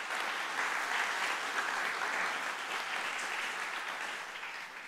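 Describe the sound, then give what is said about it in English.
Steady applause as a hand clap of praise to God during a sermon, a dense wash of many hands clapping at once with no voices, holding fairly even before tapering slightly toward the end. “Give him a hand clap of praise for that.”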